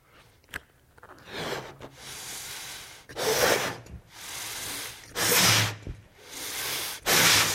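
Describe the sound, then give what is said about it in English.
Someone blows their breath into a balloon, filling it: several strong, breathy puffs come in a steady rhythm, with softer intakes of breath between them and no talking. “The air that filled up this balloon and caused it to take form is the same substance that empowers it to sustain its form, to keep its form.”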